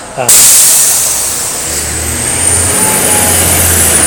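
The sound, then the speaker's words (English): A PSTA commuter bus, big like a coach, rumbles past, its loud engine drone and rushing road noise filling the air steadily for several seconds, with a faint high whine above the low hum. “I guess PSTA's commuter bus, man, they're like big coaches compared to what we got.”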